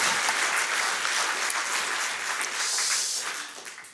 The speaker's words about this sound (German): Applaus für den